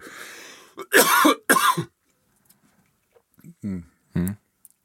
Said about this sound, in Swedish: Hostig? Ja.